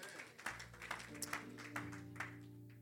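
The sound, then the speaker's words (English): An audience claps for the Lord Jesus in a steady rhythm, about two claps per second, with sustained organ-like keyboard chords holding underneath. “Clap for the Lord Jesus.”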